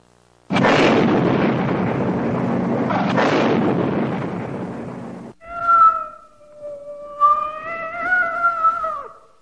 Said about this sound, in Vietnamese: Khi tới gần một cái hố còn đang âm ỉ, chúng tôi nghe thấy tiếng kêu thương tâm của một chú mèo đang bị chôn vùi giữa đống lửa. Một chiếc thùng bìa lớn niêm kín bỗng cháy rực và nổ tung.